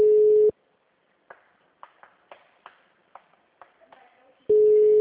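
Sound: telephone ringing unanswered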